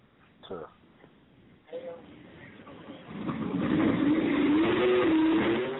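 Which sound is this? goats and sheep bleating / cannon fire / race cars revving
race cars revving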